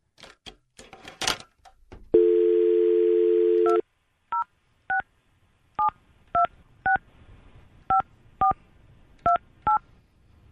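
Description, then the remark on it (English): A brief handling clatter, then a steady dial tone for a couple of seconds, followed by a series of about eleven short touch-tone beeps as a phone number is dialed, clear with no talking. “Oh, it's ringing.”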